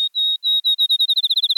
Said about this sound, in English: It's still dark, an hour before dawn on this July morning in the Wisconsin countryside. A field sparrow announces the new day. This was the first bird song Aldo Leopold awoke to on his farm in the 1940s.